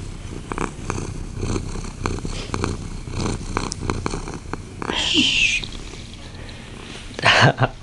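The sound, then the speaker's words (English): A female cat purrs loudly, a steady rumbling rhythm of pulses that runs throughout, broken near the end by a couple of brief, sharper noises. “She's purring pretty darn loud.”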